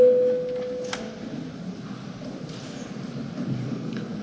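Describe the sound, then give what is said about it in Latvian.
A steady electronic signal tone sounds for about a second: the voting bell in the Saeima before a first-reading vote on amendments to the European Parliament election law. It then gives way to a quiet murmur of room noise with no clear speech. “Tātad, kolēģi, lūdzu zvanu.”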